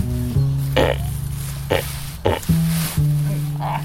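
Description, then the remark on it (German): Several short, low pig grunts come in quick bursts, each a brief throaty snort with some noisy breath between them, over a steady background hum. “Die Schweine hier scheinen sich alle sehr wohl zu fühlen, bei den etlichen kurzen Grunzlauten.”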